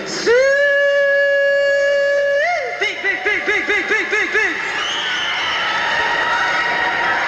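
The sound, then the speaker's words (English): A loud hog-calling shout: one long, held, drawn-out cry that breaks into a quick run of bouncing, yodel-like calls, followed by a crowd erupting in cheers and laughter. “Well, if you don't know how to hog call, this is the way we do it.”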